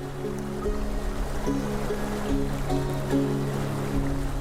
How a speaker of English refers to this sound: But right now, our city's canals are rushing. The normally dry riverbeds are wet again.